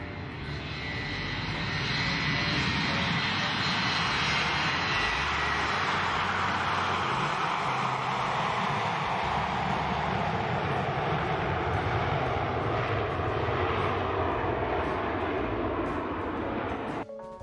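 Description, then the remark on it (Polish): Loud, steady roar of a Boeing 727 jet airliner's engines in Canada lasting throughout, a broad rushing blast with a slowly falling whine as the aircraft passes by; no voices. “Przenosimy się do Kanady, gdzie piloci Boeinga 727 nie zauważyli wycieku paliwa.”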